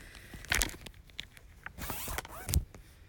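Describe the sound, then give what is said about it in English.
A zipper down the back of a dress is pulled down in a few quick, raspy bursts, fairly clear, with short pauses between the pulls and no talking over it. “Hey, can you help me out of this dress? I forgot it had this stupid zipper down the back.”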